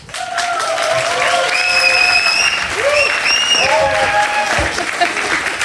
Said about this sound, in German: Die freuen sich so, die hätten auch noch 5 Minuten geklatscht. Es fühlt sich so schön an, hier zu sein und mal wieder Applaus und Leute und echt und live.